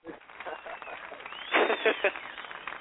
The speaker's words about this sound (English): Where's my clapping sound? Oh yeah.